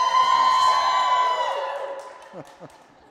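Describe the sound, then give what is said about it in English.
A live audience at a Jug Life Live show cheers loudly on request, with sustained whoops and shouts that gradually fade. A couple of short rising whoops break through near the end. “Cheer again. Cheer.”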